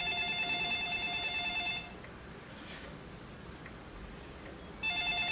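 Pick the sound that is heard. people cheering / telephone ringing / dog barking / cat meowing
telephone ringing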